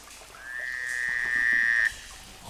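A single steady, high trilling call from a frog holds for about a second and a half, clear, then cuts off abruptly. No one speaks.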